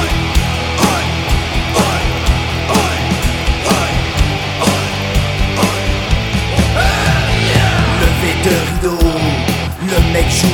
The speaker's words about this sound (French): La foule s'échauffe, la tension monte, le public crie, et lui aussi.